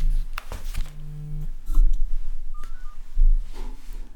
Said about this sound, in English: And why is my phone buzzing? It's another phone call, of course.